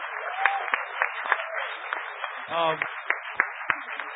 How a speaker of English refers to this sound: All right, now, and actually, let's give a huge, while we're queuing up for questions, if anybody has any, let's give a huge round of applause to all these panelists for staying under 2 minutes largely.